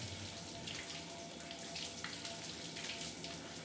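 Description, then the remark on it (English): Steady rush of running water, like a shower spraying continuously, with a constant hiss and faint splashing throughout. No voices are present. “We'll wait until your shower's over to get back on the case.”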